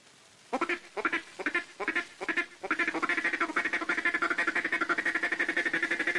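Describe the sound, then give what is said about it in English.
A duck call blown in a mating pattern phrased like "kitty kit, kitty kit, kitty kitty kitty kit", the hand starting closed and opening near the end of each kit: a few separate clipped quacks, then a fast, steady run of rhythmic nasal notes, loud with no talking. “For the mating call, say kitty kit, kitty kit, kitty kitty kitty kit. With your duck call, begin with your hand closed and open it near the end of the kit.”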